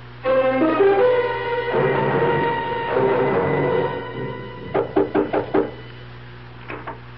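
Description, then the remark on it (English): A swelling passage of music over a low steady hum fades into a quick run of about five firm knocks on an aunt's door, followed moments later by two softer raps; the door goes unanswered. “My aunt doesn't answer the door.”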